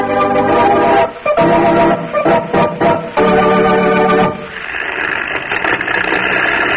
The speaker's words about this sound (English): Listen, it's an airplane. That airplane motor sounded kind of weak, didn't it? Makes you wonder whether that plane will ever reach the ground safely again.